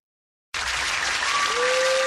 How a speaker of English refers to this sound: Let's do live applause.